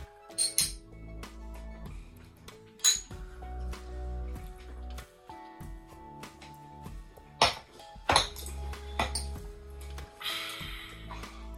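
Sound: shot glasses clinking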